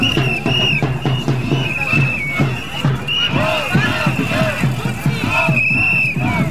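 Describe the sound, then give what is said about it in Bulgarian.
A loud protest crowd in Bulgaria, protesting against parliament's deputies and the government at the start of 2014, roars continuously while shrill whistles blow in long, repeated blasts and droning vuvuzela horns buzz steadily underneath the clamor of shouting voices. “Игнорирайки протестите, депутатите свикнаха с вувузелите и освиркванията”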